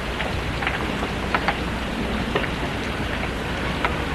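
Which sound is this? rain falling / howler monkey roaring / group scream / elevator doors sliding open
rain falling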